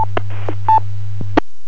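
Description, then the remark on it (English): Short electronic DTMF keypad tones and sharp clicks keying a radio repeater over a steady low radio hum, with a brief burst of static in between. The beeps are quick and fairly loud, and no one speaks. “Yeah, it might have been you that was keying the repeater.”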